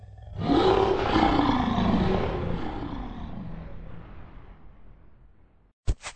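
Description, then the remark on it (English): A single long, deep roar from the lion Aslan swells up loud, then slowly fades over several seconds, followed by a brief pair of sharp knocks at the end. “And now I feel I am going to roar. You had better put your fingers in your ears.”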